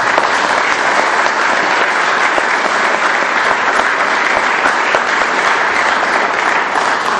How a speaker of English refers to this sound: And I think it would be appropriate to give a round of applause to the men who came in early today to cook for us.